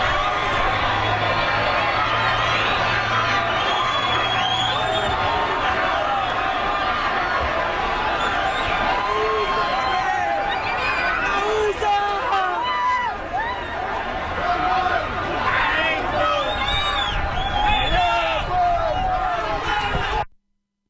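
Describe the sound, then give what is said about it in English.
A large crowd rushes across a border bridge toward the U.S., many voices shouting and clamoring over one another in a dense, steady roar that holds loud for about twenty seconds before cutting off. “Another idea is to just be in a crowd, make a rush. Here's what it sounded like.”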